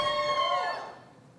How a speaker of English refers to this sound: What is all that squeaky noise? it's just the walls creaking.